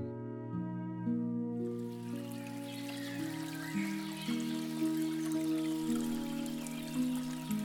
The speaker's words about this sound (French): Toi, tu es sur le banc avec ton arbre protecteur et tu écoutes cette rivière qui te calme.